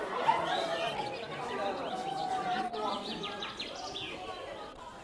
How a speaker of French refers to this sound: Les oiseaux. Il n'y a plus d'oiseaux. Les oiseaux ont disparu lors de l'aménagement touristique du littoral languedocien tout proche, quand les moustiques ont été exterminés. Il y avait des rouges-gorges, des chardonneries, je me rappelle.